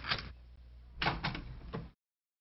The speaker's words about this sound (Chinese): 对不起啊，我马上开门啊。